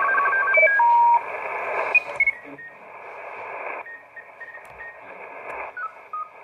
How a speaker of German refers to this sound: Und das da drüben, das sind Funkamateure. Da ist jemand am Morsen voraussichtlich. Direkt.